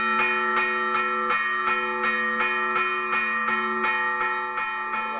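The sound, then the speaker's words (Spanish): A church bell rings fast and insistently as a fire alarm, about a dozen strikes in quick, steady succession, their rich ringing tones overlapping and sustaining loudly throughout, with no voices. “Se quema, no sé dónde, pero se está quemando algo. ¡Ah, fuego!”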